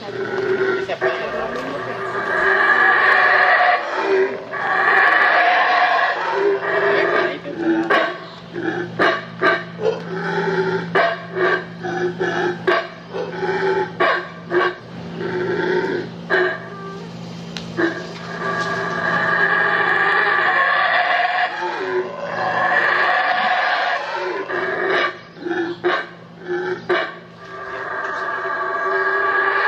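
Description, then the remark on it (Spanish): Saraguato howler monkeys scream loudly and almost without pause, their rough, harmonic howls overlapping in long surging waves with only brief gaps and choppy bursts between calls. “empezamos a escuchar unos gritos impresionantes del mono Saraguato.”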